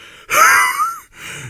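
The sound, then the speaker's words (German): A voice imitates the horse Ferdinand panting heavily as he sits down: one long, loud, breathy exhale with a whistling edge, then a shorter, softer breath, with no talking. “Hörte ich Ferdinand schnaufen und er setzte sich hin.”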